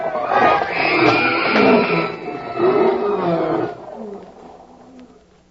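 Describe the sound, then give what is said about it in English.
Escaped big cats roar loudly, several rough, rumbling roars overlapping for a few seconds before the noise drops away into a quieter, fading growl. “If any of your boys round up some of those cats or elephants that escaped, hold on to them.”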